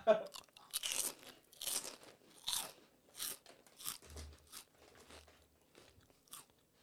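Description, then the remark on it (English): Crunching of big wave salt and vinegar potato chips: a run of sharp, crackly bites and chews, about eight or nine bursts in an uneven rhythm, loud at first and softening toward the end. “This is a salt and vinegar. Yeah, it's like salt and chips vinegar touch.”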